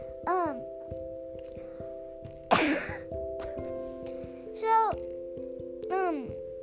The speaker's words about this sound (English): Oh, guys, you probably guessed it by now. I do have a cough.